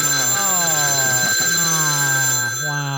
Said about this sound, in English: It's the Celebrity Death Phone interrupting me.